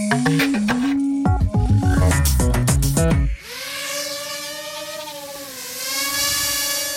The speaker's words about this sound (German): Wenn es bei Ihnen an Weihnachten so tönt, dann hat irgendjemand eine Drohne bekommen. Genauer gesagt, wahrscheinlich ein sogenannter Multicopter. Ein kleiner ferngesteuerter Helikopter mit mehreren Propeller